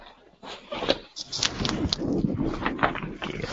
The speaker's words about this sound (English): Oh, sorry about that. My puppy just got into the pizza.